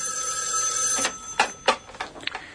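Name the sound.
telephone bell ringing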